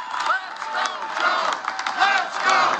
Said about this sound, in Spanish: Al grito de Vamos Joe, los asistentes a la conferencia legislativa de sindicatos mostraron su apoyo al presidente Joe Biden en su primera comparecencia pública tras anunciar su candidatura a la reelección en 2024.